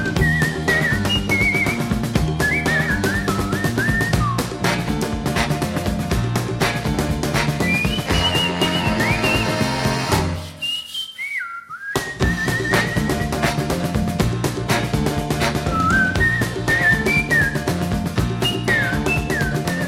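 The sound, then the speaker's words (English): A bright whistled melody rides over a bouncy piano-driven New Orleans rhythm and blues band, with a brief drop-out near the middle before the whistling tune and backing groove return. “That's Mardi Gras New Orleans by Professor Longhair”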